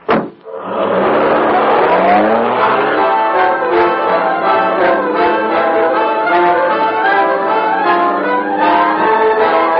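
A car engine starts with a sharp burst, then settles into a loud, steady drone as the car pulls away, its pitch climbing and shifting through gears. No one speaks.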